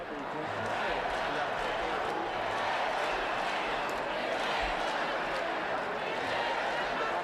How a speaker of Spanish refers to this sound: Bueno, se oye ahí a la gente vitoreando a Boti, que como nos decías, Beatriz, está abarrotada la plaza de Pedro Cerolo. Sí, la plaza está llena.